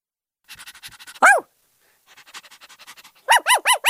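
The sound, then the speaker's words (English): A dog sound effect: quick rhythmic dog panting, then a sharp yelp, more panting, and finally a run of four loud, evenly spaced barks. No one speaks. “Trying to load this dog sound effect, Jesus Christ.”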